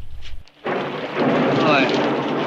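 heavy rain pouring down

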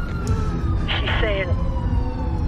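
ambulance siren approaching

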